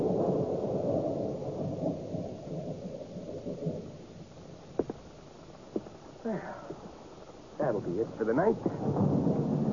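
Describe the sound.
A deep, rolling rumble of thunder as rain starts fills the first few seconds, then fades into a few sharp knocks while muffled voices rise near the end.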